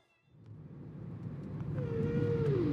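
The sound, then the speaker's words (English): Whale sounds from a CD play inside a moving car over a steady low rumble, a long rising-and-falling tonal call sliding through the middle as the background noise swells. “Let's pump those whale sounds and get back on the road.”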